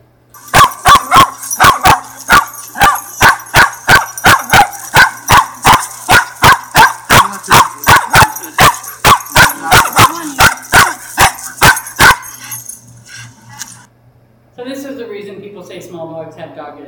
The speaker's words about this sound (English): So this is leash reactivity in a small dog.